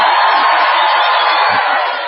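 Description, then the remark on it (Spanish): A crowd inside a tent shouts together on request in one loud, sustained roar of many voices, holding steady for about two seconds before easing slightly at the end. “Y ahora la gente de adentro.”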